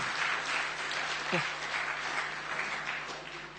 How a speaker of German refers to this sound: Können wir Ihnen als Gemeindefamilie einen Applaus ermöglichen?